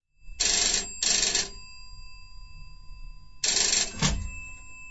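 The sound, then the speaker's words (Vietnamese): A telephone beside a bed rings with an overseas call in two short bursts, pauses, then rings again; the ringing is loud, with steady bright tones and a faint low hum underneath. “với chiếc máy điện thoại để bên cạnh. 20 phút sau có tiếng chuông reo.”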